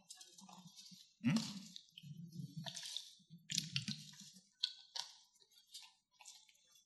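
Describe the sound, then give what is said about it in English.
Quiet sipping and swallowing of water, with wet squishy mouth sounds and small gulps spread over several seconds, no talking. “Drink my water.”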